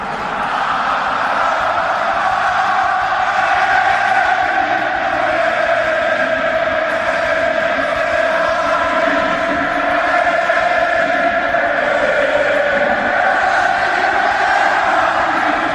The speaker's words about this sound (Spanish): Y tras el 1-0, tras un triunfo sudado y sufrido, meritorio como pocos, los jugadores aplaudían a su gente que se resistía a abandonar el campo. Así sonaba el Metropolitano, o era el Calderón.